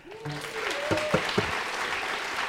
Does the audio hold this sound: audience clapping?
yes